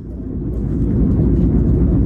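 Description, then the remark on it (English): A steady, deep engine drone fills the cabin of the Prime Minister's plane in flight about 30,000 feet above the Atlantic, heading to Washington, D.C.: a loud continuous low rumble with a faint hiss above it and no voices. “I'm sitting on the Prime Minister's plane about 30,000 feet above the Atlantic as we head over to Washington, D.C.”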